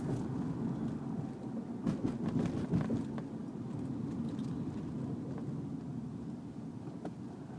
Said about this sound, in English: 1, 2, 3, 4 buses, and this last bus is towing a trailer.